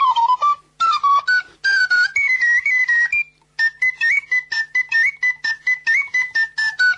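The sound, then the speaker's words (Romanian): A plastic ocarina plays a lively melody, its pure, breathy notes rising and falling in short phrases with brief pauses between, no voices present. “Altă ocarină. Plastic cânt.”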